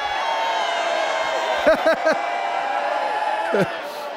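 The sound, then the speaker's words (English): An audience shouts and cheers in a steady roar, with a few louder whoops and yells breaking out above the din partway through and again near the end. “Why are you carrying on like that? Why are you shouting like that?”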